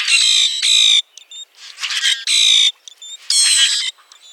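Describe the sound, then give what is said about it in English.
Loud, harsh squawking bird calls in bursts, alternating with shorter metallic squeaks and rasping notes, a noisy repeated pattern of common grackle calls with no talking. “You can hear the roaring calls of common grackles in the eastern U.S. and Canada.”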